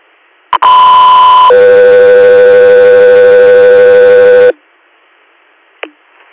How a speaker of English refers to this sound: 803 Air, stand by for tones.